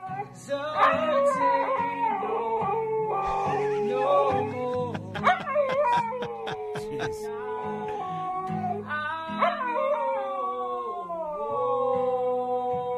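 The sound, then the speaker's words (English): A dog howls along with a song playing in the background as a duet, its long wavering howls sliding up and down in pitch over the music, loud. “Oh, he's in tune for a second. There's a couple parts where the dog... Right there! He's like winding up and down the scale enough that like he'll either be right on pitch or he might or just a third above or below to kind of sort of harmonize.”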